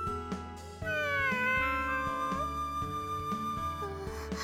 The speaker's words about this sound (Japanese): 見てわかりませんか？猫と遊んでます。